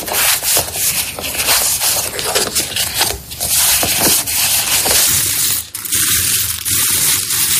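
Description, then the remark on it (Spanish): Playing cards being shuffled by a person, a dense papery riffling and rubbing that runs steadily throughout with a few brief pauses, loud and crisp with no one talking. “Escuchado a una persona primero barajando unas cartas,”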